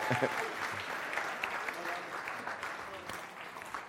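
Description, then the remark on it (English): An audience claps steadily for several seconds, a dense, even patter of many hands with a few voices murmuring underneath. “Give him a round of applause and we'll let him stand out.”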